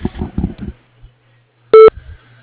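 A single loud electronic beep, about a tenth of a second long, sounds right after a voice finishes speaking. It is the answering machine tone on the Reflections of Nature business phone line, signalling that recording has started.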